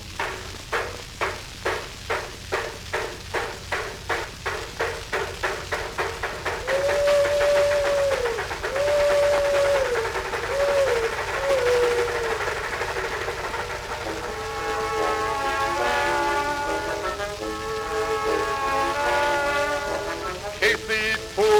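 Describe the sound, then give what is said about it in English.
A steam locomotive chugs in a steady, quickening rhythm, then its shrill whistle sounds in several long wailing blasts, followed by layered whistle tones over the continuing rumble of the rolling train. “He tooted for the crossing with an awful shrill.”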